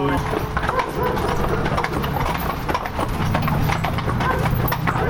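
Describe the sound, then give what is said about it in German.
Horses walking on a hard surface, hooves clip-clopping in a steady, overlapping rhythm, with faint background voices and outdoor noise underneath. “Es standen zwei Frauen mit Schippe und Besen bereit, um die Hinterlassenschaft unserer Pferde sauber zu machen.”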